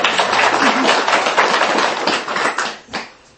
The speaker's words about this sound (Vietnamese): Một thời tụng kinh Lăng Nghiêm sáng nay phải nói là rất là tuyệt vời. Quý vị tự cho mình tràng pháo tay lớn.